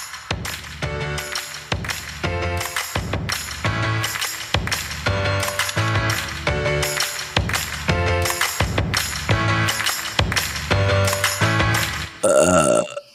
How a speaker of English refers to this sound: Did you hear that burp? I heard a little bit of it out of the headphones that weren't quite on my head yet.